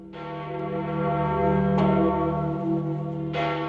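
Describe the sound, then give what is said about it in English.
Large church bells of St. Peter's Basilica in the Vatican peal with a few distinct strikes whose long, overlapping ringing tones sustain and blend into a continuous resonant wash, fairly loud and with no voices. “A factor of uncertainty that allowed for a novelty during the last conclave, when the first pope to be elected in the third millennium was greeted not only by smoke, but by the pealing of bells from St. Peter's Basilica.”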